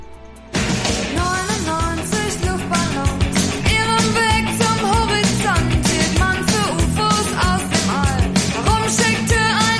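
A German-language pop song kicks in after a brief quiet moment, loud and steady, with a sung lead vocal over driving drums and full band backing.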